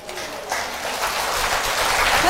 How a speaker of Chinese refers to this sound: 那后面有一位师姐一直在拍手